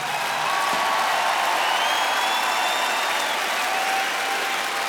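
A large audience applauds steadily for the full length, a dense wash of clapping at an even, loud level with no voices over it.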